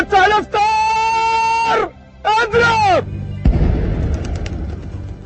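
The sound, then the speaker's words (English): A single deep blast of the Ramadan cannon, fired at sunset in Cairo, Egypt, to mark the iftar meal, booms out and rumbles away, following a voice chanting long, sustained melodic notes in the open air. “After sunset and the sound of the Ramadan cannon, people eat their first meal or iftar, which is often a copious multiple-course banquet.”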